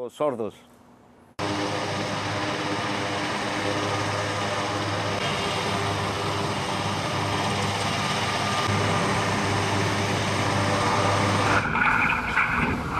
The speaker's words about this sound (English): The worst thing ever we have here in Maria Cristina Hills are the choppers that fly very low and leave us deaf.